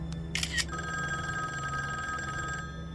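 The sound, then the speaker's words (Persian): A couple of brief clicks, then a lobby telephone rings near a room with a steady, continuous electronic trill lasting a couple of seconds over a low background hum, clear, with no one speaking. “تلفن لابی نزدیک اتاق جلودار.”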